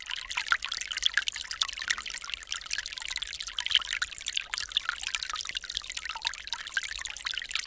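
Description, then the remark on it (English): Water ripples and trickles steadily with a bright, fizzy texture and small splashy flickers, continuous throughout, with no voices. “one of the ripple recordings from Coraline”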